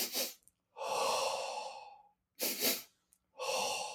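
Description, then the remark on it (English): Sobbing breath: quick, forceful sniffs in through the nose, then a long, airy exhale lasting over a second, and the pattern starts again with a double sniff and another breath out. “So it's multiple sniffs in through the nose, followed by a long exhale.”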